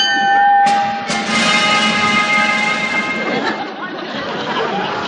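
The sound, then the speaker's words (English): A bell rings out with bright, lingering tones, struck a couple of times in quick succession before fading, over a steady murmur of crowd chatter and bustle. “I heard that bell again.”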